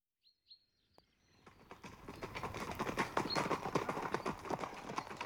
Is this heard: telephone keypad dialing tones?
no